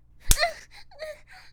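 A man slaps a woman: a single sharp slap cracks out, followed at once by a startled gasp and a few breathy, whimpering vocal sounds.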